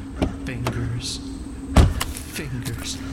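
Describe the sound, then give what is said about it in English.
A car idles with a steady low engine hum, broken by several mechanical clicks and a sharper thump partway through, as the car pulls over and comes to a halt. “Here comes someone in a car. Fingers. Good. Fingers. He's pulling over.”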